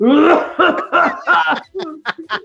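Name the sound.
coughing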